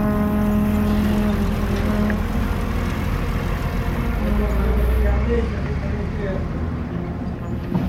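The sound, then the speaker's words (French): A heavy truck engine starting up rumbles loudly and steadily, a deep droning idle with a low throbbing tone that holds for the whole stretch without pausing. “Il y a un camion qui se met en route.”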